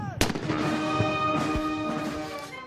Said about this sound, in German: 21 Kanonenschüsse begrüßten den neuen Präsidenten.